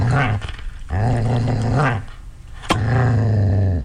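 A dog growls in three sustained, rumbling bursts separated by brief pauses, fairly loud, with a sharp click or snap just before the last growl.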